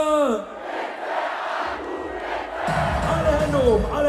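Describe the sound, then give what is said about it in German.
A concert crowd in Freiburg roars with cheers and shouts, a dense wall of voices that swells louder in the second half, with a few high whoops rising above the din. “Und das Publikum in Freiburg rastet aus.”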